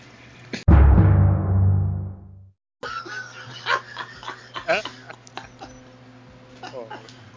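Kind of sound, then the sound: household object, toilet flushing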